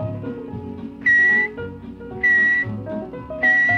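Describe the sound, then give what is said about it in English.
Three loud, steady high-pitched whistle notes, evenly spaced about a second apart: a person whistling in imitation of a pet canary whistling the letter K, over a low, busy background hum. “First of all, you teach your own pet canary to whistle various letters of the alphabet. Here is K.”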